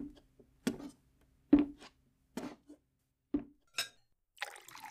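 Several sharp glassy clinks and knocks ring out at irregular intervals, followed at the end by a short, hissing rush of water being poured into a glass, with no talking.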